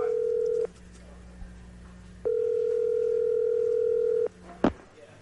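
A steady, mid-pitched telephone tone sounds in two long stretches separated by a gap of quiet line noise, followed by a brief sharp click near the end, as a phone call is placed to Tiger Woods. No one speaks.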